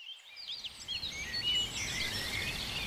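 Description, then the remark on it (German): Several birds chirp and twitter busily in overlapping high calls, with a soft, steady rustle of leaves in a light wind underneath on a spring day, no voices present. “Hallo du, hörst du, wie die Vögel zwitschern und die Blätter leicht im Wind rauschen?”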